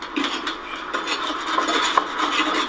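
Shells are being scraped off the underside of a boat hull during its twice-yearly cleaning: a steady, harsh rasping of repeated strokes with a few sharper clicks and knocks. The sound is fairly loud and continuous, with no voices.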